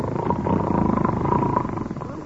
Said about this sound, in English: How you like that? I really must be tired. I ain't asleep, but I was snoring already.